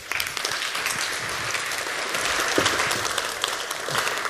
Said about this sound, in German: Und ich freue mich massiv drauf und bitte euch um einen schönen Applaus für